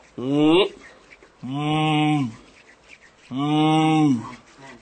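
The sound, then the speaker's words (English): A person imitates a buffalo with three drawn-out, lowing calls, each loud and separated by short pauses, with the last call the longest, as part of a vocal depiction of animals during soft rain. “And you hear the bigger animals also in the background, such as the buffalo.”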